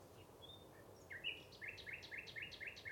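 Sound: nightingale song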